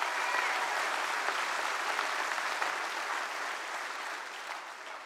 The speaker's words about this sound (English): Give the Lord a hand clap of praise in this house today.